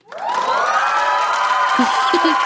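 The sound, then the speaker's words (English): A studio audience erupts into loud, sustained cheering and screaming that swells quickly and holds steady, a dense wall of excited voices with a few shouts standing out near the end. “And that audience was me screaming yes.”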